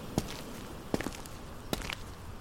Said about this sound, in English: I walk across the great ballroom, feeling dust and grit crunch and scrape beneath my feet.